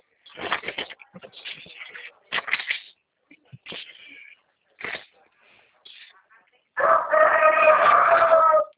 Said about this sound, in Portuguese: E as galinhas aí, ó, galo daí.